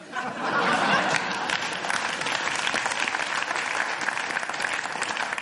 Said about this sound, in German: Applaus, super.